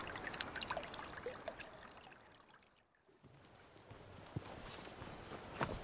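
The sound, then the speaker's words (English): Water bubbles up from the ground at a spring, a steady, faint gurgling that thins briefly midway, then resumes with small splashes and drips. “In short, protecting this resource that's bubbling up from the ground here.”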